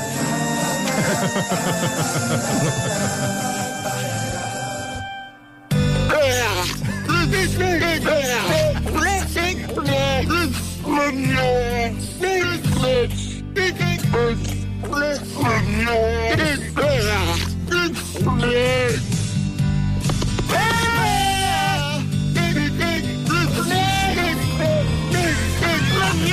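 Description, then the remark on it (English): A montage of seal calls edited into a song: rising and falling barks and moaning cries sung over a steady musical backing, loud and continuous after a brief opening tone. “This is a number of seals that have been put together in a montage to perform a particular song.”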